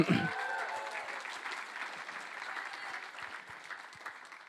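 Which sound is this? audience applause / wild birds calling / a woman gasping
audience applause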